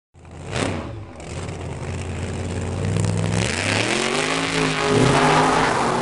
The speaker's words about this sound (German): Natürlich darf hier ein passender Auspuff nicht fehlen. Guter Look und bassbetonter Sound an der Schmerzgrenze sind die Kriterien für einen richtig getunten